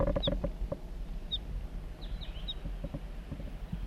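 A wild male crossbill sings way down in a hollow, heard as a few faint, high chirping notes scattered over steady low rumble, with a small cluster of quick chirps near the end.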